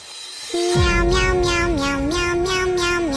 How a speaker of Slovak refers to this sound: páčia sa mi takéto akože prerábky, že mačka spieva namiesto …